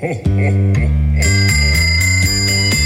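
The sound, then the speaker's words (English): A Salvation Army hand bell is rung on the street to collect donations for the red kettle, ringing over and over in a steady, quick rhythm, bright metallic strikes with a lingering shimmer, loud, with a low voice-like hum underneath. “Every year about this time, the Salvation Army is taking it to the streets, ringing the bell and asking you to come fill up the red kettle.”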